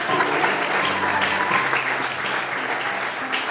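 A crowd applauds steadily, dense clapping that stays loud and even throughout, with a few faint voices mixed in underneath.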